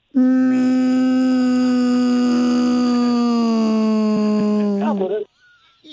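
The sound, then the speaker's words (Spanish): Someone imitates the horn of a trailer truck they drove with one long, loud, steady honk held for about five seconds, its pitch sagging slightly before it breaks off with a wobble at the end. “¿Pero qué tipo de pito tenías? Era así como...”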